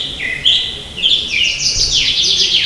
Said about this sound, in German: Im Frühjahr zwitschern die Vögel nicht irgendwo in der Ferne, sondern ganz dicht neben dem Ohr.